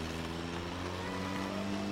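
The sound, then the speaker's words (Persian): A car engine runs with a steady, droning hum as the vehicle pulls away to be parked outside Café Polonia, even in loudness throughout, with no voices. “برزو میره ماشین رو پارک کنه.”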